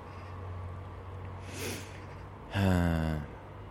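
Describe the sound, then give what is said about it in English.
A single harsh, crow-like bird call from birds on top of a fence rings out loudly and slides downward in pitch, preceded by a soft breathy rustle, all over a steady low hum with no talking. “The birds are flying along the back of me on top of the fence.”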